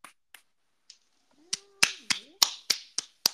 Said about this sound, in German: Oh, danke. Auch mal klatschen für mich.